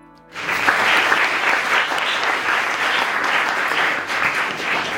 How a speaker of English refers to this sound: Let's start by giving a round of applause to Rayan, the audio engineer tonight.